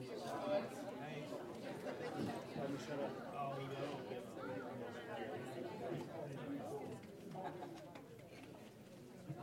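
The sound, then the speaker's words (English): Steady murmur of a small crowd chattering, many overlapping voices at a fairly even level throughout, with no single speaker standing out. “Tell you what, this is a good little crowd.”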